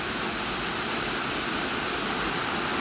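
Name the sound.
waterfall flowing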